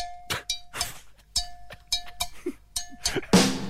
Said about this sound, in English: that is a campfire coffee cup and a spoon.